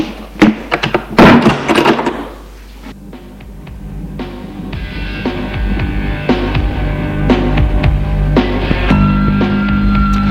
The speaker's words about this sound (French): Et Frédéric ferme la porte.